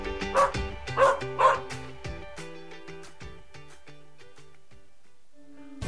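A dog barks three times in quick succession, loud, in an ad for Bark in the Park at a Rough Riders baseball game, followed by a bright musical jingle with sustained tones that fades toward the end.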